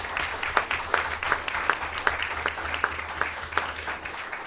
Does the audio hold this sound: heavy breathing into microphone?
no